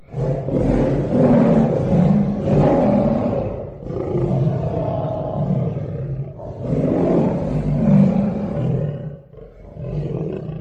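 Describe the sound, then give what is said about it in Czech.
A lion roars again and again, deep and powerful, in long rumbling bursts, its head turned toward the desert, each roar echoing among tombs. No one speaks. “Zdálo se, že si Šasty nevšimlo, neboť se náhle zastavilo, obrátilo se hlavou k poušti a zařvalo.”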